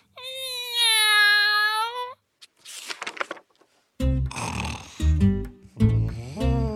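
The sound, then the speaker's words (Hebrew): Heavy, rumbling snores from an elephant sleeping on a path fill the second half after a long wailing cry and a few breathy puffs; the snoring comes in loud, drawn-out pulses, with no one talking. “פיל ישן על השביל.”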